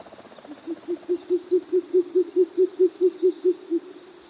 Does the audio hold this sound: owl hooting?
yes